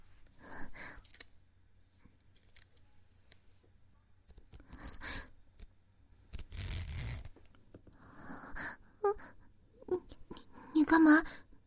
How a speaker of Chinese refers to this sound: 你干嘛拉拉链吗？